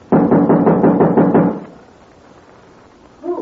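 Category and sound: household object, knocking on a door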